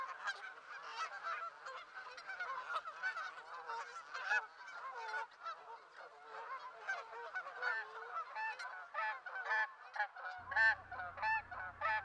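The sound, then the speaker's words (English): A large flock of Canada geese honks continuously, dense overlapping calls filling the air at steady volume, with a low rumbling hum entering near the end. “The Canada goose.”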